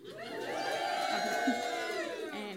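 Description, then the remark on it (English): An audience at an evening live event cheers and applauds steadily for a couple of seconds, a dense wash of voices, whoops and clapping at a fairly loud, even level with no single speaker standing out. “After speaking to the organisers of tonight's wonderful event, pause for cheers and applause.”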